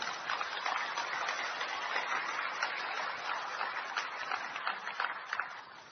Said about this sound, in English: And I think a great credit and a great round of applause to all of them also.